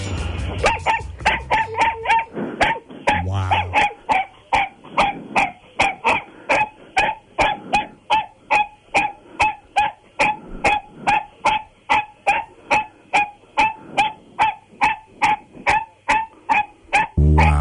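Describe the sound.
A dachshund named Sophie barks over and over during a 30-second barking contest, in a fast, steady rhythm, dozens of sharp, loud barks, with only a brief spoken word near the start.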